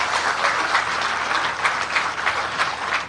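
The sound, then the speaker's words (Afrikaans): An audience applauds Fred, who has worked 47 years at the newspaper Die Burger, steadily for about three seconds, a dense, even wash of many hands clapping at a fairly loud level, with no voices over it. “So hande klap vir Fred wat hier agter is.”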